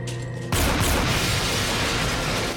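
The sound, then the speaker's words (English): A low steady hum gives way to a sudden loud gunshot that shatters a glass partition, followed by a long, dense crash of shattering glass that fills the remaining two seconds without pause. “She zaps and he shoots, shattering a glass partition.”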